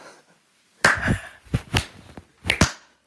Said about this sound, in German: So, das ist, ich würde jetzt gerne den Slow Clap starten.